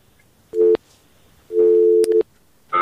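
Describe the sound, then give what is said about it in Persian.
A telephone busy signal after a listener's call to a radio phone-in show drops: a short steady mid-pitched beep, then a longer one broken by clicks, and finally a higher tone starting at the end. No voices. “خب قطع شد.”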